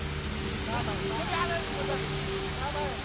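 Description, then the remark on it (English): A high-pressure fire hose creates a wall of water in a steady, loud rushing hiss that never lets up, with faint voices murmuring underneath, as a White Helmets rescue team practises firefighting. “The team practice firefighting. A high-pressure hose creates a wall of water.”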